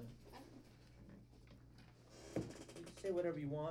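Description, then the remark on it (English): A single quick thud of a door being shut, sharp and brief, over a low steady hum, followed by a voice starting to speak. “You put the headphones on, and then you just hit the door quick.”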